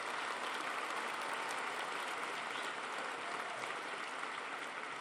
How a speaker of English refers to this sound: First of all, before I move on, congratulations, Rich, all your efforts. What you're doing with the stadium is fantastic. Rich deserves a huge applause for all his efforts on this.